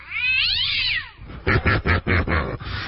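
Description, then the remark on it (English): A cat lets out a long, wavering yowl that rises and falls, then a quick run of about five short, harsh yowling bursts, loud with no talking. “Lay your tail right out there on the rug, kitty, and we're going to step on it again.”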